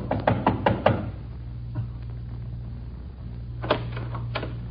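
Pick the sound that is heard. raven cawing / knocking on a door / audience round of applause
knocking on a door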